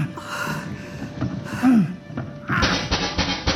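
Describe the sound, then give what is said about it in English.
A low, steady rumble with a brief gasp-like vocal sound, followed by a run of sharp, loud knocks on rubble in quick uneven succession near the end. “Oh, I hope to God that's you knocking.”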